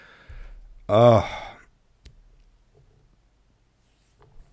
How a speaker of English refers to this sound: Oh, now I've got the hiccups.